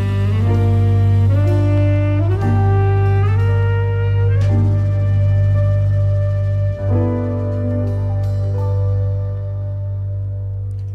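A slow jazz ballad plays with no voices: a smooth, sustained melody glides step by step over steady, deep low notes, with only the occasional soft percussive accent.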